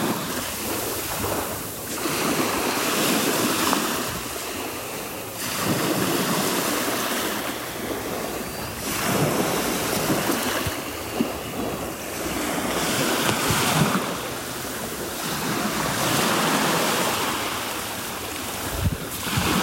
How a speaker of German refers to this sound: So, und als Entschädigung dafür und auch als Beweis dafür, dass ich auch an der Ostsee an euch sehr gedacht habe, gibt's jetzt erstmal etwas Meeresrauschen für die Ohren. Das kommt jetzt.